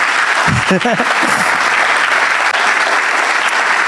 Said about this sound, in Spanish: Si lo aplaudí, aplaudí.